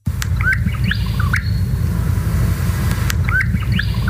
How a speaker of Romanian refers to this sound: Cum face un mâncător de miere regent, o să vă întrebați.